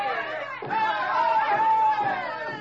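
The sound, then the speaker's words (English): Students at a campus demonstration parade on Faculty Row carrying placards and signs, shouting and chanting together in a dense, steady roar, with one sustained high-pitched cry rising above the mass, briefly dipping and swelling again. “For an hour, Stephanie and I watched from the background as the shouting, chanting students paraded on Faculty Row.”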